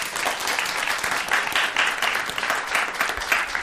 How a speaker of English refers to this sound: Can I get... can people applause if they agree with this theory?